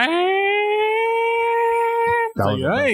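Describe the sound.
A rising, then long steady wailing siren tone, most likely a voice imitating the siren put into dance tracks like those at Club Space, holds loud for about two seconds before breaking off into animated talking.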